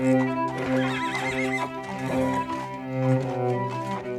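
A horse neighs loudly in the stables, its high whinny wavering and trembling before settling into lower, drawn-out snorting calls that continue without pause for several seconds, with no voices.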